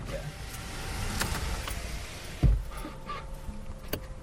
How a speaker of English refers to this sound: What was that noise? I think that was your window.